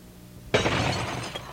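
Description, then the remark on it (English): A windshield's glass shatters with a sudden loud crash, followed by about a second of bright crunching and tinkling debris settling, with no voices, in a radio advertisement for Harman Glass. “A broken windshield isn't any fun.”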